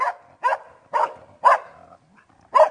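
A dog barks five times in a steady, evenly spaced rhythm, each bark short, sharp and fairly close, with brief silences between and no voices.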